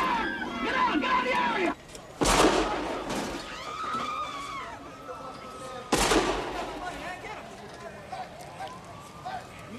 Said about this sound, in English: He switches off the TV and looks out the window as he hears gunshots in the street outside.